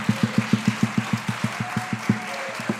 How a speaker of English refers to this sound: So we're going to do three more songs before we finish our concert, and we'd like to ask Paul to come and join us. And please, a hand of applause for Paul.